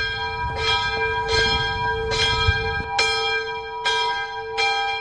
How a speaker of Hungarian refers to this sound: bekapcsol egy alkalmazást, és megszólal a harang